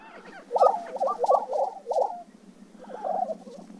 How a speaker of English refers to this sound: It's prairie chicken mating season.